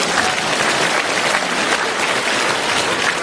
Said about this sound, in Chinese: 好了，鼓鼓掌，让他下去。